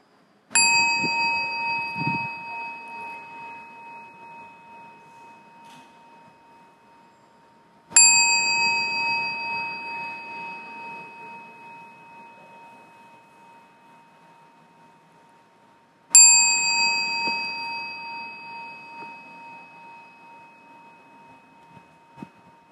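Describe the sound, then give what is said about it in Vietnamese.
A meditation bell is struck three times at slow, even intervals during a meditation retreat at a temple in Ba Ria-Vung Tau, Vietnam, each strike ringing out clearly and fading into a long, shimmering decay before the next. No one speaks. “Bây giờ ở đây chúng ta lắng nghe tiếng chuông.”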